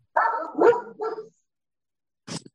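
A dog barks loudly, three quick barks in a row, then a brief pause before one more short, sharp bark.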